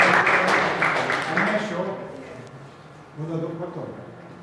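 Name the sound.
audience applauding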